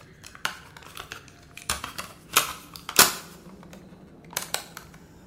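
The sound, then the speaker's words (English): A cassette tape is flipped over: a handful of sharp plastic clicks and clacks at uneven intervals, one snap louder than the rest, with no talking and faint handling noise between them. “Flip the cassette.”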